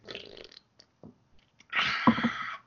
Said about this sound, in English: Sorry, I had to double tap that burp.